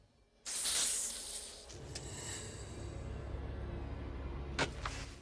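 A snake hisses sharply and close, a loud airy burst that settles into a sustained breathy hiss over a low rumble, flaring briefly again near the end.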